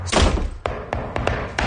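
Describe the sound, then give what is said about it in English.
A heavy thud opens, followed by several sharp knocks on David Beckham's door, spaced unevenly over a second or so, fairly loud with no voices. “Knocks at Beckham's door.”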